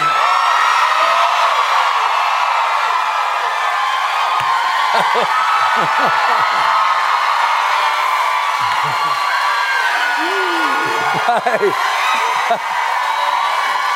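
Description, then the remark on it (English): A large crowd of girls screaming nonstop, a dense, high-pitched wall of shrieks and cheers that stays loud and steady throughout, with occasional whoops rising above the roar. “When you close your eyes, do you hear the girls screaming?”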